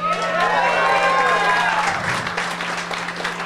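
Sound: audience cheering and clapping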